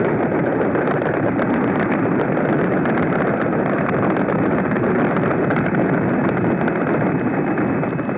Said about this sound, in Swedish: Ni hör en invasionsbåt som attackeras av tyska plan och låter alla sina kanoner spela upp. Aircraft directly above us now. Our own gun firing.